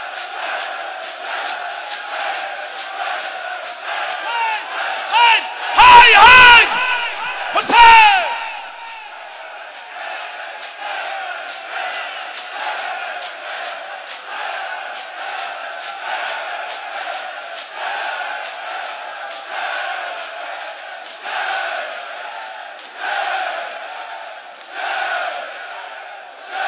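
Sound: crowd shouting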